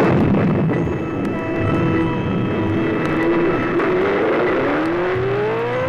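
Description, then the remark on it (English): A brand new 1973 Datsun 240Z sports car is driven hard on a wet road, its loud, steady roar rising and shifting in pitch as it revs through the gears, with a low rumble and road noise beneath, no talking. “A slight sheet on the road, a mist of water left behind as you put a brand new 1973 Datsun 240Z through its paces.”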